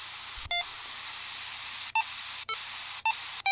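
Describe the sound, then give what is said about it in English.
Five short beeps from a radio transceiver as its reverse button is used pop out at uneven intervals over a steady bed of loud static hiss. Some are lower-pitched and some higher: a low beep marks switching to the repeater input, a high beep marks switching back to the output. No one speaks. “And you get the low beep and you go to the input, high beep, you're back on the output.”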